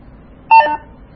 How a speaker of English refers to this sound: And you hear that sound? That means it disengaged the lock. If you press it, hold it in again, that engaged the lock. So two different tones there.